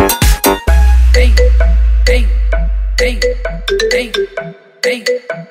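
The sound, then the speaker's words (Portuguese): A mobile phone ringtone plays loudly, a bright electronic melody of quick, bouncing notes over a deep bass tone, repeating its short tune several times with no one speaking. “Mó cara de pau de agora me ligar. No meu celular não tem mais o seu nome.”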